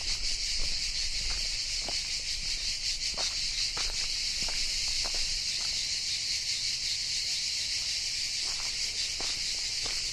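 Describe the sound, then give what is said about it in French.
Cicadas sing in a steady, unbroken high buzzing drone that fills the whole recording, with occasional faint ticks and rustles beneath it and no voices, in bright sunshine on a path on an island looking out toward the Île du Levant. “En tous les cas, le soleil est magnifique, les cigales chantent.”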